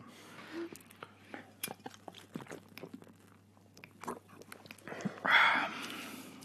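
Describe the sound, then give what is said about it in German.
Glasses clink together in a toast, with a scatter of small clicks and rustles and one brighter, briefly ringing clink near the end. “Stößchen. Prost.”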